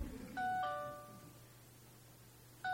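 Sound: mobile phone ringing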